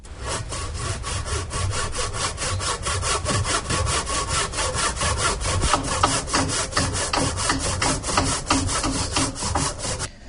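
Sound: sawing wood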